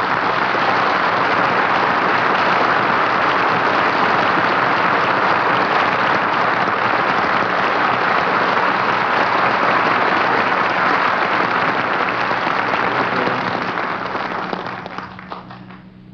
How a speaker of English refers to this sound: Thank you, folks, for the kind applause.